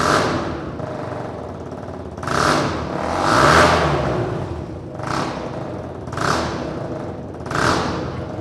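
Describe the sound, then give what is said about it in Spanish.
A student-built prototype motorcycle from the UMH Racing Team, nine engineering students at Miguel Hernández University, entered in the international MotoStudent competition, idles with a steady rumble, then revs up sharply several times in quick bursts, each rev rising and falling, loud with no one speaking. “Así suena la motocicleta con la que el UMH Racing Team, formado por 9 alumnos de ingeniería de la Universidad Miguel Hernández, va a concursar en el certamen Moto Student.”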